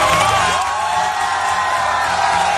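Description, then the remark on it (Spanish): A large crowd in central Madrid, Spain, cheers and whoops loudly and continuously as electricity returns after a massive blackout, a dense wall of shouting voices with excited cries rising above the roar throughout. “La electricidad volvió a la península ibérica provocando gritos de euforia como en el centro de Madrid.”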